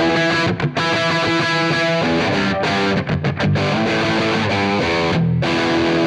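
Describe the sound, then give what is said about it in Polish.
A loud, heavily distorted electric guitar plays sustained chords through a power amp turned up to maximum, the overdriven tone thick and compressed, with a few brief choked gaps between notes and no voices. “Słychać już zniekształcenia.”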